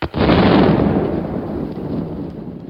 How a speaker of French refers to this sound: C'est l'explosion de Nebout de la grosse Bertha sur la maternité de la rue d'Assas. Explosion qui fit tant de victimes parmi les femmes perturbantes.